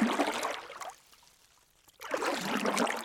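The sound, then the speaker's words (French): Oars dip and splash through lake water in two fairly loud strokes as a person rows a small boat on a lake in the afternoon, each a rushing swirl of water separated by a brief near-silent pause, with no voices. “J'aime le bruit des rames dans l'eau.”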